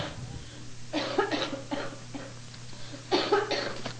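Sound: person coughing repeatedly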